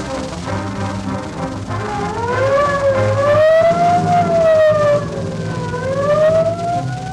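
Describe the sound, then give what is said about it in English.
A police squad car siren wails as the car responds to a murder in front of the Paramount, sweeping slowly up and down in pitch in long, loud cycles over a low, steady rumble, with no talking. “Okay, the squad car's right out in front.”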